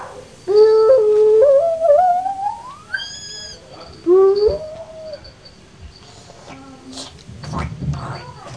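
A dog howls twice, first a long wavering howl rising in pitch, then a shorter one, followed by quieter scuffling and faint background noise.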